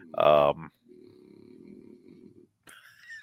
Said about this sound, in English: Well, there's Odie. What a dog. He's a Frenchie. Frenchie snore.